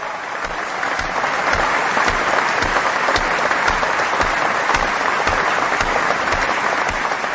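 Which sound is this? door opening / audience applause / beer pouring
audience applause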